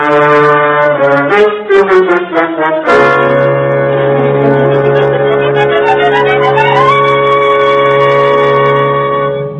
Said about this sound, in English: Yeah, the siren.